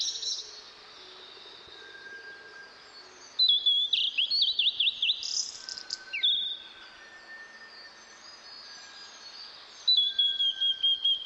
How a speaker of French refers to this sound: Le champ de colza. Les moineaux prennent des mines d'admirateurs de fleurs.